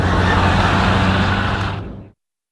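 A car engine roars loudly, straining under heavy throttle for about two seconds before cutting off abruptly, with no voices over it. The driver is pressing too hard on the gas pedal.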